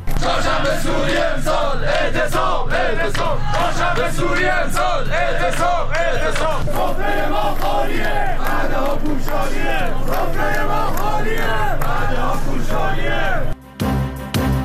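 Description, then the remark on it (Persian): A large crowd at a firefighters' protest gathering in Tehran chants and shouts together loudly and continuously, many voices overlapping in rising, rhythmic cries, before cutting off abruptly near the end. “تجمع اعتراضی آتش نشانان در تهران.”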